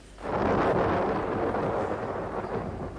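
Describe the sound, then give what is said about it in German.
A deep, rolling rumble of thunder from a thunderstorm swells in quickly and stays loud and sustained, a broad roaring wash with no voices over it. “Ein Gewitter. Schnell, kommen Sie zum Fenster.”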